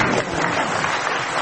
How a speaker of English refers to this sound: I should think a round of applause for that, yeah.